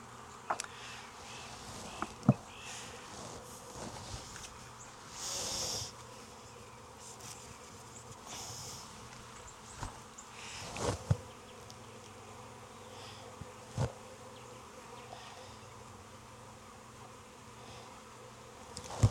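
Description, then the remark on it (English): A dense, steady drone of many honeybees buzzing around an open hive, continuous throughout, broken only by a few sharp clicks and knocks as a beekeeper handles the hive; no one speaks. “So I need to find some good nurse bees.”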